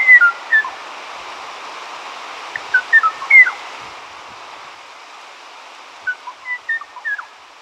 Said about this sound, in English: The tranquil song of the Kauai O'o graced the high-dense forests of Kauai until 1987, when it was heard no more. The voice of only one member of this family of birds, now all extinct, remains immortalized on tape.